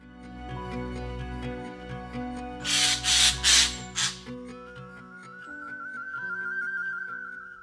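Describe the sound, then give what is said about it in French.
Bird calls from recordings hosted on the xeno-canto.org site: a few harsh, noisy squawks in quick succession, then a long, steady whistled note, heard over a sustained tonal background with no voices. “Les sons d'oiseaux que vous avez entendus dans cet épisode ont été enregistrés par Marc Plummer, Béatrix Saadi-Varchmin et Bernard Bousquet et sont hébergés sur le site xeno-canto.org.”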